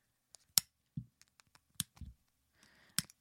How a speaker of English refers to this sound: Can you identify what that sound is? If you guessed cutting fingernails, you are correct.